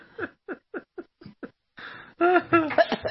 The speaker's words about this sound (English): She's got such a lovely, sexy cough.